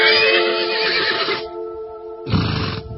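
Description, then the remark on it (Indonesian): A horse beside a horse cart in a yard grown with tanjung and nagasari trees gives a long, loud, shrill whinny with a wavering pitch, falls quiet for a moment, then lets out a shorter, rougher snort-like neigh. No one speaks. “Sebuah gerobak kuda sudah disiapkan di halaman yang banyak ditumbuhi pohon tanjung serta nagasari.”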